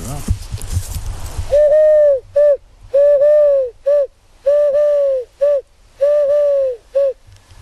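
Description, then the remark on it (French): A person imitates a Eurasian collared dove, giving clear hooting coos in a steady repeated three-note pattern, a long coo, a longer one, then a short one, after a brief noisy start. “Tourterelle turque.”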